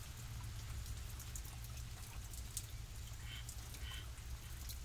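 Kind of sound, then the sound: nature, rain falling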